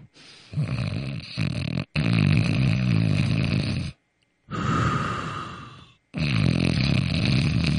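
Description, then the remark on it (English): A man who has fallen asleep during a phone call snores heavily and loudly over the phone: three long, rough, rattling snores, each separated by a brief pause, with no talking. “you hear him going, which he's just breathing hard, right, and then he sort of goes from to this, he goes.”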